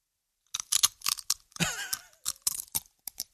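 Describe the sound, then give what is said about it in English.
Slow crunching as someone chews food, a series of dry, brittle bursts spread unevenly over a few seconds with short pauses between bites. “That might have been the slowest crunch I've ever heard.”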